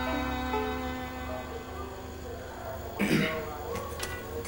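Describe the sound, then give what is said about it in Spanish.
An unshaven man in a café clears his throat once, a short, gruff rasp rising over a steady low background hum, followed by a couple of faint clicks. “Una camarera en la cincuentena se acerca al hombre sin afeitar que ha carraspeado.”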